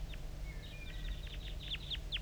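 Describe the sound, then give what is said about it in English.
A wild bird's quick, high chitter notes, a dozen or so short descending chirps in an uneven run that quickens toward the end, over a steady low rumbling hum. “I'm getting a lot of calling from the decoys, and those are chitter notes of the wild bird.”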